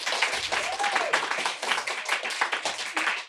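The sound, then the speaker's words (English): A crowd applauds steadily, clapping to say they have had a lot of stress in the last 2 months. Many overlapping claps form a dense, continuous patter at an even loudness for a few seconds, with no one speaking. “Now I'm going to ask those of you to clap if in the last 2 months you've experienced a lot of stress to the point that it sometimes made it kind of hard to function.”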